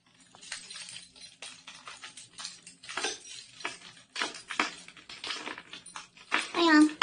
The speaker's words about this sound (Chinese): 门怎么这么难开啊？钥匙明明全插进去了，又错了 啊！终于开开了，看来这新装的门钥匙孔一定得好好捅捅门才好开。